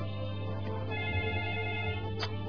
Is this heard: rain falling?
no